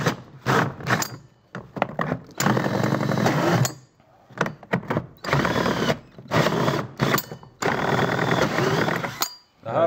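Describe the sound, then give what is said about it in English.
A power tool whines in repeated loud bursts, starting and stopping several times as it cuts net-cup holes in a plastic tote, 12 sites in all, with short quiet gaps between the runs. “Let's come in here and cut each one of these.”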